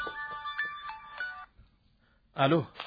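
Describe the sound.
A mobile phone rings with a quick electronic melody of short repeating tones for about a second and a half, then cuts off; after a pause, someone briefly speaks.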